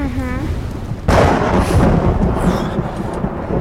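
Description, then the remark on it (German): A sudden, loud thunderclap bursts in about a second in, then rolls on as a broad, rumbling crash as lightning strikes the mast of a three-masted ship at sea. A brief voiced sound is heard just before the strike. “Ach, der Blitz ist in den Mast eingeschlagen.”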